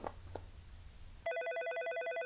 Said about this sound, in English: Oh, hey, pick up the phone. Yes, just hold it against my ear.